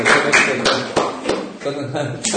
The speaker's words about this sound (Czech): To, když já vám říkám, co je pro vás těžké, tak proč na to tleskáte? To jste sami proti sobě, ne?